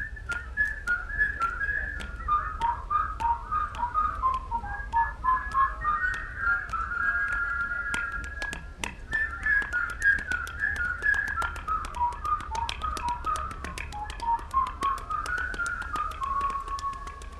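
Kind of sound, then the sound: human body sound, people whistling a tune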